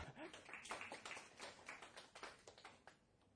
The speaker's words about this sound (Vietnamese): Ồ, quá hay. Xin một tràng pháo tay để khích lệ cho anh bạn này.